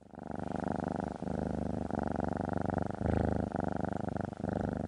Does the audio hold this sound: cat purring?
yes